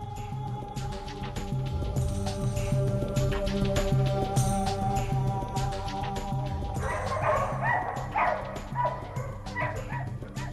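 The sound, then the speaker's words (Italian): Several dogs bark and yip at the moon, calling back and forth from one farmstead to another across a moonlit hillside, over a steady low hum, with a burst of sharper, busier barking toward the end. “I cani che abbaiano alla luna. Si chiamano tra di loro, si rispondono da un cascinale all'altro.”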